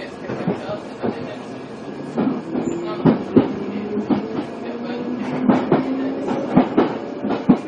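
Train wheels clatter over rail joints in an irregular run of sharp knocks and clicks, riding on a steady rumbling carriage noise, moderately loud throughout.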